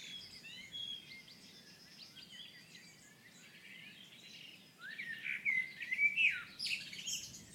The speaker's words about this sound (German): Und die Amsel singt jetzt sehr lang eigentlich. Wundert mich ein bisschen.